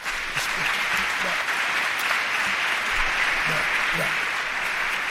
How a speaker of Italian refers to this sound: Facciamo un applauso a lei, alla Madonna.